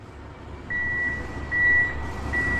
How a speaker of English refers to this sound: That's the noise of the forklift reversing, and I'm about to get into it.